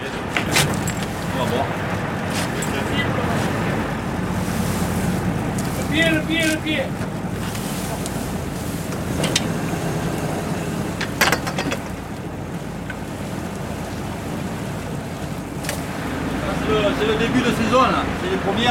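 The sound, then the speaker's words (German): A fishing boat engine drones steadily over choppy sea off the coast of Marseille, France, as the boat heads to its first net, with wind buffeting the microphone and occasional sharp knocks and splashes; faint voices come through now and then. “Und dann zurück, ein langer Bogen vor der Küste von Marseille. Jetzt fahren wir zum ersten Netz.”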